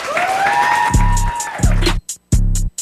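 Cheering with rising whoops and whistles over crowd noise, then three loud, evenly spaced clap-like bursts with a heavy low thump, the last ones standing out against a brief hush, welcoming a special guest on a hip-hop and rap radio show.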